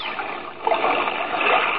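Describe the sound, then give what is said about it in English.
A loud splash as a person falls overboard into water, followed by a continuous churning, bubbling rush that carries on to the end without any voices. “Man overboard! Man overboard!”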